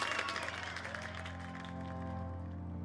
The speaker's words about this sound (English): The young woman joins the rest of the audience in a round of applause, still reeling from having just witnessed an incredible marvel.